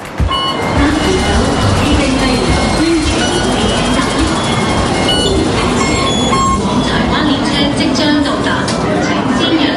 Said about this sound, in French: On descend dans le métro.